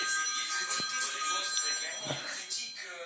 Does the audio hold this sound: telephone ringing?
yes